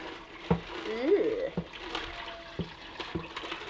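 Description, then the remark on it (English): Water poured from a jug splashes and trickles into a container that already holds some water, with soft sloshes and a few sharp knocks. A brief murmur of a voice comes through early on. “Can I get the rest to go in it with the jug? Yeah. We've already got some water.”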